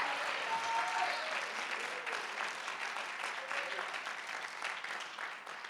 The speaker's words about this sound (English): And if you are, clap your hands unto the Lord. Don't golf clap because I won't believe you. Give him a clap and a shout with a voice of triumph.